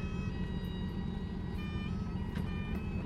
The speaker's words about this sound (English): Piper aboard one of the approaching boats.